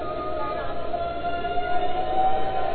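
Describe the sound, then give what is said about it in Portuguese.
An audience sings together in the Spirit during worship: many voices in sustained, wavering tones, a dense choral sound at a steady, moderate volume with a faint crowd murmur beneath. “Vocês nunca viram pessoas cantando no Espírito? Escute.”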